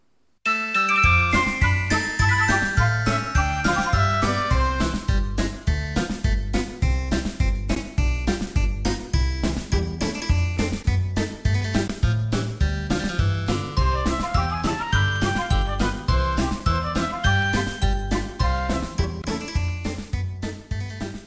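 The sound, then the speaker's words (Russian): A small bell hanging on a twig in a forest rings steadily in a bright, tinkling melodic pattern with a deeper repeating tone beneath, sustained and fairly loud for about twenty seconds, with no voices. “Бежит, а на веточке колокольчик висит и звенит.”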